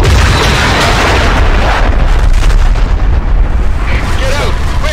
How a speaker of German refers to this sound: Das war jetzt nicht so geil. Wir sind gleichzeitig mit dem Heli explodiert.